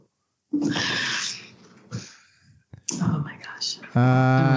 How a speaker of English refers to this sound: A cat playing with a cork, okay? If you're like, what's that? We know, so it's okay.